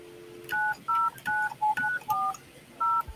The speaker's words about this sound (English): I can hear a dial tone. You want to call the number and see if it